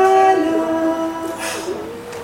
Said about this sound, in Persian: مثلا یه ساز اینجاست که اسمش سنتوره. سنتور جان میشه به بچه ها سلام کنی؟ گوش بدی؟